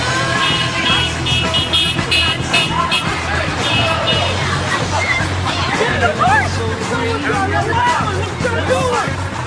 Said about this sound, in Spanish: Con tiendas rodeadas de bocinas al estilo peruano y también al estilo internacional.